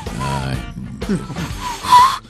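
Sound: whistle blown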